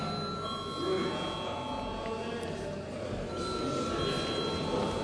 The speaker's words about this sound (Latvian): Vai deputātiem ir iebildumi, ir nepieciešams balsojums? Ir iebildumi, lūdzu zvanu.